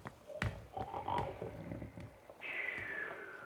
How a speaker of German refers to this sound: Als sie sich der Tür nähern, hören sie ein dröhnendes Schnarchen.